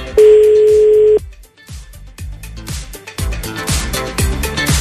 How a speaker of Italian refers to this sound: Stiamo chiamando il primo. Beh, sentiamo il primo. Squilla? Squilla.